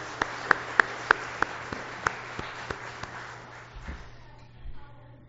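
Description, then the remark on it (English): Applause from a church audience for a woman after her testimony, with a few sharp, evenly spaced claps standing out over a diffuse wash of clapping that gradually fades away after a few seconds. “And we'll give her another round of applause.”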